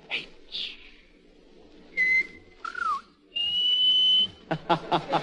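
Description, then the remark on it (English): A person whistles a short run of notes in place of words, answering 'Bob Hope' to a question about a favorite radio personality: a held steady tone, a swooping dip, a long sustained pitch, then a quick burst of clipped chirps, fairly loud. “In whistling, those H's always sound like C's.”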